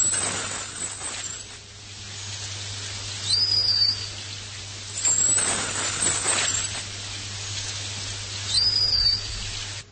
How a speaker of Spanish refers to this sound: Esto es una grabación del delfín del Yangtze. Casi sonaba despedida, ¿no? Pues sí, es una de las poquísimas grabaciones que hay.